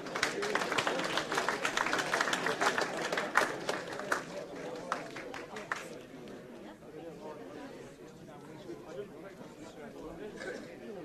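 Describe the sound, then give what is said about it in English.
A room full of people claps together for several seconds, giving the Lord a clap as they are asked to be seated; the dense applause thins out around the middle and gives way to murmured crowd chatter as people settle. “Give the Lord a clap as you do.”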